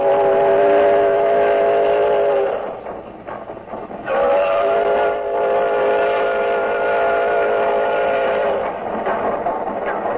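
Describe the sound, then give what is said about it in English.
A steam locomotive sounds a long, loud, multi-toned whistle, breaks off amid a burst of rhythmic chuffing, then blows a second sustained whistle blast over the churning rumble of the train. “Oh, he puffed and he panted, this old iron horse.”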